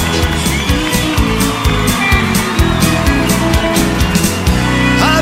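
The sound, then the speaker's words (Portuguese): A large rodeo crowd in Planaltina, Brazil cheers and shouts continuously, with whoops and yells rising over a dense, steady roar that stays loud throughout, as the chute opens for the bull Sadam of Cia Quatro Irmãos. “Vambora, menino, que o povo gosta. O povo grita.”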